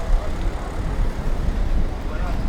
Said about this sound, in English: Right now, I'm trying to cross the road, but it seems that the traffic is a little bit complicated.